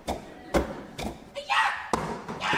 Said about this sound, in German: Aber das Allermeiste auf der Bühne ist tatsächlich Klatschen auf den Körper. Und da muss schon so ein bisschen Schmackes dahinter sein, denn wenn die Gruppe zum Beispiel in einem Theater auftritt, dann soll es auch in der letzten Reihe noch